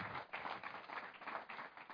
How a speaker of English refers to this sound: Oh, come on, give him a clap offering this morning.